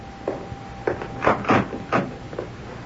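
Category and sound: household object, front door being opened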